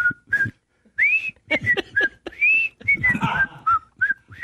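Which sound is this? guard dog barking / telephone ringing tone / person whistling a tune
person whistling a tune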